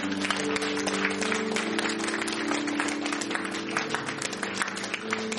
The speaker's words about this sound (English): Can we give the Lord a hand clap? Czy możemy oddać chwałę Bogu przez ten czas?